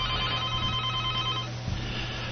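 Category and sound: signal or alarm, telephone bell ringing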